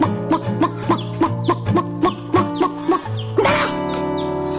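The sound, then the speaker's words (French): Rapid, rhythmic chicken-like clucks repeat in a steady pattern over a sustained musical background, voiced by two people imitating hens, ending in a louder squawk before the music continues. “Vous avez entendu deux imitateurs très doués de poules”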